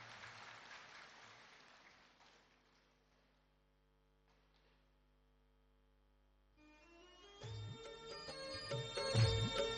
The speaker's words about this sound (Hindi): एक बार ताली बजा के प्यारे बाबा का हम अभिनंदन करते हैं, धन्यवाद।